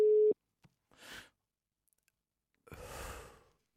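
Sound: telephone ringing tone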